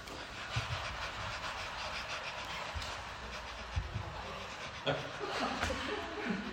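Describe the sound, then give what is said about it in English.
Quick, rhythmic panting breaths, done as part of a breathing exercise, repeat steadily for several seconds, breathy, with slightly stronger puffs at intervals and no talking over them. “And now I'm going to do a little bit of panting.”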